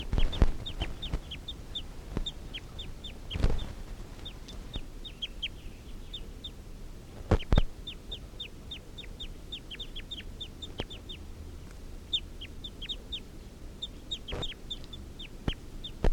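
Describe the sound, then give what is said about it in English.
A wild male fowl gives a steady series of short clucking calls, repeated in quick bursts throughout, with a few sharp knocks and a quiet outdoor background. No one speaks. “Wild male's giving a clucking call.”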